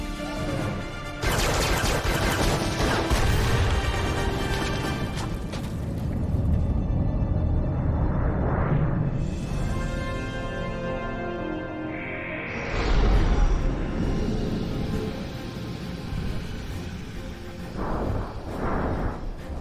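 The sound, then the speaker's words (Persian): Weapons firing at an asteroid: a loud, dense barrage of booming blasts and crackling weapon fire, rumbling continuously with heavy impacts and swelling bursts throughout, no voices present. “دارن به سیارکو شلیک میکنن.”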